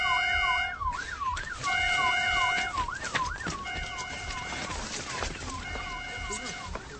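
ambulance siren

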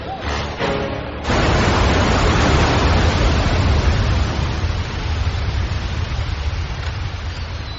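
water running

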